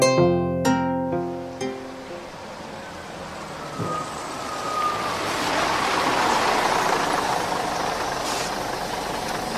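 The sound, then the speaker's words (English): A bus from the city rolls up at a market and comes to a stop, its engine rumbling and hissing steadily after a short tonal blare at the start. No one speaks. “A bus from the city stops a few meters away from them.”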